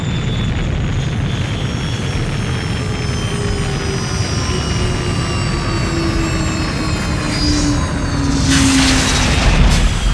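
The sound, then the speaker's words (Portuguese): A jet airplane lands on the island of Ilha do Conselho, its loud turbines roaring steadily while their high whine slowly slides downward as the engines wind down, with a brief surge of rushing noise near the end. “O jato finalmente pousa.”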